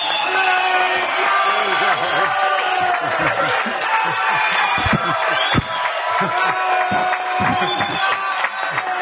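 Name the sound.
crowd cheering and clapping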